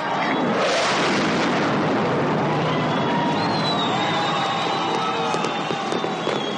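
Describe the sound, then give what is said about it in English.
Loud, sustained roar of F-16 fighter jets in a formation flyover from Kirtland Air Force Base at Isotopes Park on opening day 2003. A high engine whine shifts in pitch over a noisy outdoor crowd of over 12,000 throughout. “Here come the F-16s!”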